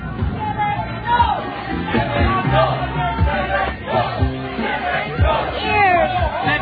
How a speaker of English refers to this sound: Dr. Shevek, we have just got word that there's a crowd around the spaceport. We may have trouble landing you safely.